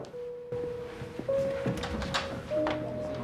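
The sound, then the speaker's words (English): After a knock, Claire opens her dorm room door to Noah in the TV series Heroes, with a few soft thunks and latch clicks, set against a steady, low humming tone that shifts pitch slightly partway through. “She opens the door to Noah.”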